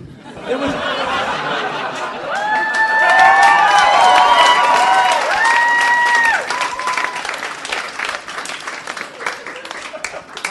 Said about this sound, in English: You just got a standing ovation for a pun. It's awesome.